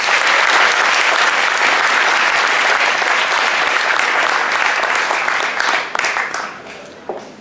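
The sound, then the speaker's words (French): Loud, sustained audience applause fills the room with dense clapping for about six seconds, then thins out and fades as the clapping breaks into scattered hands near the end. “Je vous demande d'applaudir très très fort”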